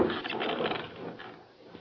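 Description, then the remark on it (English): The door of a hut is pushed open with a drawn-out, grinding wooden creak, steady before trailing off slightly toward the end. No voices are heard. “I pushed it open and held my gun ready.”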